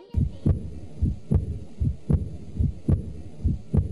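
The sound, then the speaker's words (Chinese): A steady heartbeat thumps in a regular lub-dub rhythm, about five beats of deep, muffled low pulses, with no voices over it. “卜卜卜卜卜卜，心跳声，你估唔估得中呢？”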